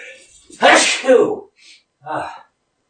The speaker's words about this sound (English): Felt that sneeze coming on for a while.